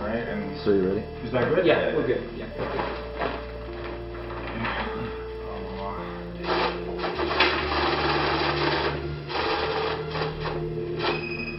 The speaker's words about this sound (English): That noise you're hearing is a money counter. A money counter is about the size of a small printer. There's a tray at the top where you place the bills. And then those bills are sent to a lower tray as they're counted by the machine.